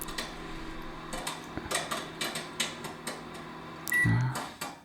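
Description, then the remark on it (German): A microwave oven popping popcorn gives a single short electronic beep near the end, over a steady background hum and scattered popping clicks. Nobody speaks. “Das war aber das Mikrowellenpiepen.”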